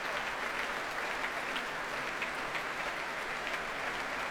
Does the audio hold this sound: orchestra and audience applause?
yes